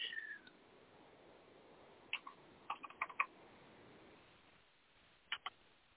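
Sparse typing on a computer keyboard: a few irregular clusters of sharp clicks spread across several seconds, fairly quiet, with gaps of near-silence between keystroke bursts and no voices.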